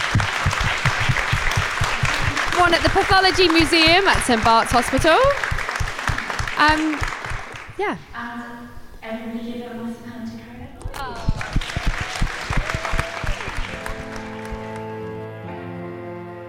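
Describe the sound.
An audience bursts into loud, sustained applause for the guests, including Dolly Alderton and Ahir Shah, while a voice speaks over it; the clapping thins after several seconds as tonal music swells in and carries to the end.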